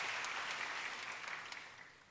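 A crowd claps steadily, a dense patter of many hands that stays fairly loud, then gradually thins and softens toward the end. No one speaks over it.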